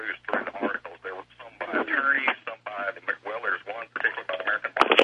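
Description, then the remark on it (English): A radio plays continuously over a telephone line, its voices thin and narrow-band with a low steady hum beneath, the broadcast chatter filling the whole stretch. “You got to turn that radio off.”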